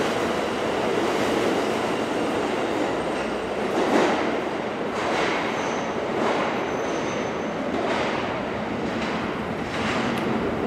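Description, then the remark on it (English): A subway train rumbles steadily through an underground station of the New York subway system on an August day, a dense roar with rhythmic wheel clacks every second or so and a faint high squeal. No one speaks. “Some atmospherics here since we've just descended into the depths of the New York subway system on an August day.”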